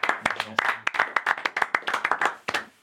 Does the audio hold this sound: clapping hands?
yes